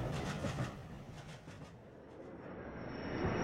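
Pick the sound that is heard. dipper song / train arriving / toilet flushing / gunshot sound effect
train arriving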